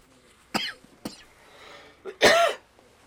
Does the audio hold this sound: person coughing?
yes